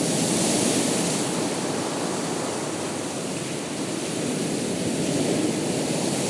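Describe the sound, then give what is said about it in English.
Sea waves wash onto a beach in a steady, broad hissing roar that stays fairly even in loudness throughout, with no distinct breaks between waves and no voices. “I don't think you can skim on waves right there.”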